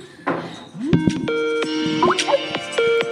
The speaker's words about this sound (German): Wir skypen nämlich immer. Deswegen die Skype-Melodie.